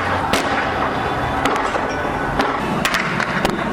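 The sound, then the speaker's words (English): Sharp gunshots crack out irregularly in the streets of Cairo, Egypt: about six or seven loud, abrupt bangs scattered over a steady rumble of street noise, with no talking. “The sound of gunshots ringing through some streets of Cairo.”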